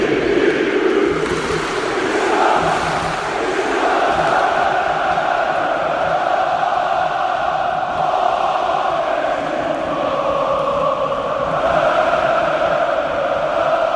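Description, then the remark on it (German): A huge crowd at Vodafone Park stadium in Istanbul, where noise has reached 141 decibels, roars steadily for the whole stretch, a dense wall of voices with rising and falling chants and cheers layered through the constant din. “Vodafone Park, 141 Dezibel, haben wir schon gehört. Und da tauchen wir jetzt, würde ich sagen, einfach noch einmal ganz kurz ein, meine Lieben.”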